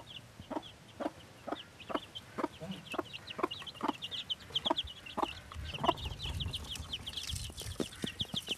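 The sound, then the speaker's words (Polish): A broody silkie hen, which has hatched chicks only a few days old, clucks in a steady run of short, repeated low calls, with faint chirping in the background and some rustling near the end. “Matki są bardzo dobrymi, kwoki są bardzo dobrymi matkami. Teraz właśnie mam kurczątka, które mają kilka dni dopiero, bo wysiedziała.”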